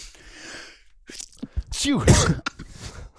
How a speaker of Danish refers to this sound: Ej, jeg skal nyse. Kan vi lige pause?